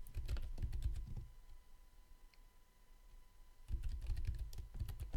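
Rapid clicking of a computer keyboard as a Git commit command with a commit message is typed, in two bursts of quick keystrokes separated by a quiet pause of over two seconds, with no voices.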